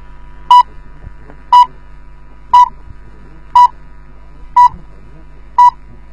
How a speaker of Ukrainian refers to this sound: Передаем сигналы точного времени. Начало 6-го сигнала соответствует 15 часам московского времени.